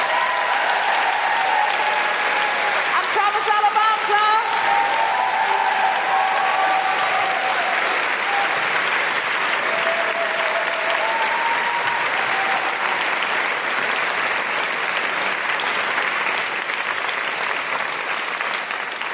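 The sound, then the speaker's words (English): A sustained burst of audience applause at a live show, dense and steady throughout, with scattered whoops and cheers rising over the clapping early on. “A big, huge round of applause”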